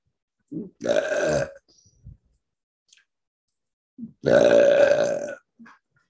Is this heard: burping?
yes